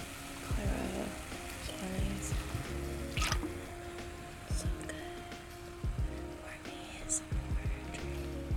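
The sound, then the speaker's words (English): Liquid is poured into a glass close to the microphone, a steady trickle with sloshing splashes and a few sharp clinks, and faint voices murmur in the background. “Pouring over the microphone, always a good idea.”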